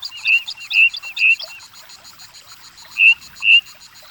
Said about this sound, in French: Oh, écoute, écoute. Un merle flûte.